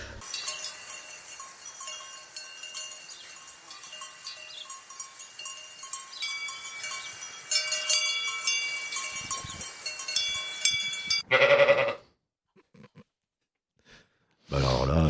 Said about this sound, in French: La petite chèvre.